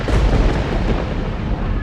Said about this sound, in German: als ein Blitz den Abendhimmel krachend zerreißt.